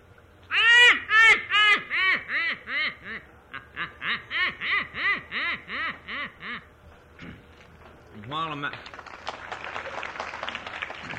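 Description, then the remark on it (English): A person imitates a duck call, which they use when hunting, with a long run of loud, nasal quacks in quick rhythmic succession, followed by a brief rougher vocal burst and fading hiss. “This comes in handy in my hunting, too, is a duck's.”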